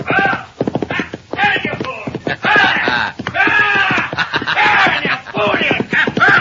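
horse galloping hooves

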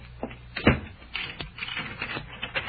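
door being locked

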